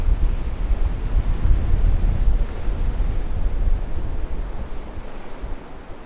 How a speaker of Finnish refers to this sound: Voisi helposti tulla mieleen, että kyllähän täällä tätä tuulta riittää ja aurinkoa myöskin